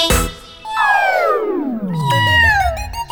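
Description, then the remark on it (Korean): Voices imitate kittens meowing in a Korean children's song about little kittens: a long, loud meow slides steadily downward in pitch, overlapped by a few higher, shorter meows near the end, all clear. “냐옹냐옹냐옹 파이를 주신대.”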